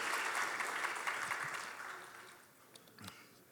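A crowd claps steadily in a dense burst of applause that gradually thins and fades out, leaving only a few scattered claps near the end.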